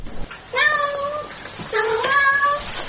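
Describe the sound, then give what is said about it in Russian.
A domestic cat meows twice when its owner asks it to meow: two fairly loud, drawn-out, wavering cries separated by a short pause over faint background noise. “скажи мяу.”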